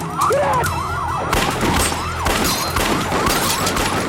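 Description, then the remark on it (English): Rapid bursts of gunfire crackle loudly and continuously, a dense barrage of shots between escaped criminals in a stopped van and surrounding police, overlapping with wailing police sirens rising and falling in the background. “Within moments, the cops are under a barrage of gunfire.”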